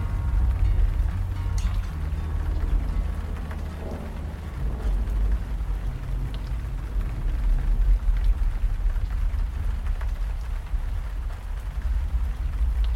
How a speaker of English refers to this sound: We noticed lightning in the distance. A storm was moving in. The way the trees were swaying, and the wind was picking up, it looked like it was going to be a big one. I didn't know it was supposed to rain this week. It's Florida.